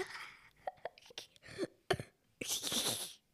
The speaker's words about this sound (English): Sorry. I need water. Oh, wait. There's a cough coming up.